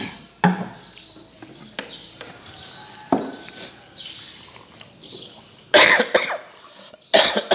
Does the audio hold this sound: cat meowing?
no